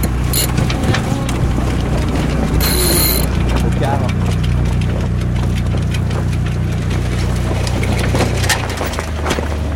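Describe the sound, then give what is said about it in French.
Rapid, steady mechanical clicking of a winch ratchet as the mainsail is hoisted on a sailboat near Cap Nègre in light wind, over the low drone of an idling engine, with wind noise and faint voices in the background. “Devant nous, le Cap Nègre un petit peu sur notre bâbord, on va directement dans la fosse, petit vent, on va mettre les voiles, arrêter le moteur, grand voile d'abord.”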